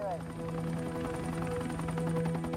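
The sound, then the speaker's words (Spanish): An FBI helicopter flies along Highway 50 at State Line, Nevada, in 1980, at an altitude of 150 metres, searching for a strobe light signal; its rotor chops in a fast, even pulse over a low engine hum, with a voice faintly present beneath. “Un helicóptero del FBI vuela por la autopista 50 buscando una señal.”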